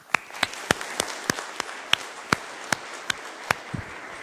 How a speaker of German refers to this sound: Ein Applaus für Markus und seine Diskussionsrunde hier bitte.